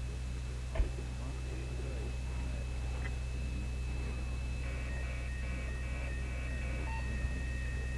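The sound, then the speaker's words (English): A small electronic beep as a file named Braille is stored to a disk drive, thin and high-pitched, rising faintly above a steady low machine hum with a soft click near the start. “A little beep.”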